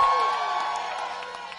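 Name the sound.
audience screaming and cheering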